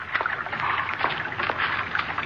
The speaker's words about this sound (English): Water. Water again.